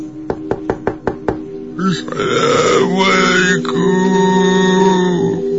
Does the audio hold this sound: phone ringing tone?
no